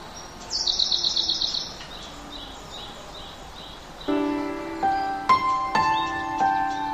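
Birds chirp outdoors, opening with a quick run of high trilled notes, then several birds calling and whistling over one another, clear with no one speaking.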